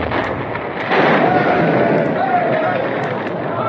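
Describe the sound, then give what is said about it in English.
A dynamite blast brings down the Palace Hotel in Dawson, a loud roar that surges about a second in and rumbles on steadily with crashing, hissing debris until the end. “The explosion rocked the earth.”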